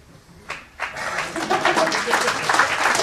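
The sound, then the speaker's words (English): Applause from an audience starts with a couple of separate claps, then quickly swells into dense, steady clapping that holds at a fairly loud level for the rest of the moment. “You know who you are applauding with this.”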